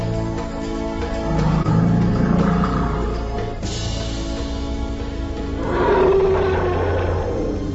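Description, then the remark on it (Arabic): Deep, loud elephant calls rumble continuously for several seconds, powerful, swelling into a brighter, harsher cry near the end with no voices present. “هذا أكبر حيوان بري على وجه الأرض.”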